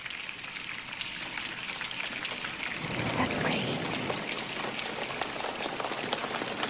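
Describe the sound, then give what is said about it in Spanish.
A choir uses body percussion with their mouths, hands and legs, snapping, clapping and slapping, to imitate rain on a roof: a dense, steady patter of many small taps that swells into a fuller, heavier downpour midway through. “Un coro de personas que con sus bocas, sus manos, sus piernas, se golpean contra su propio cuerpo y hacen este sonido, que es claramente lluvia cayendo en un techo.”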